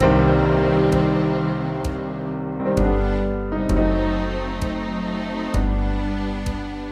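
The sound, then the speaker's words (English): Long, ringing piano notes struck about once a second in a steady pulse, each sustaining and blending into the next to form a rich, full chord-like wash, with no voices. “Will you play some long sounds now with me, darling?”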